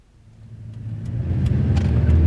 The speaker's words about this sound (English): Mr. and Mrs. Smith are driving along the motorway in their car.